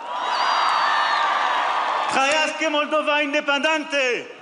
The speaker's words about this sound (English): And French President Emmanuel Macron addressed a cheering crowd in Romanian in Moldova last month.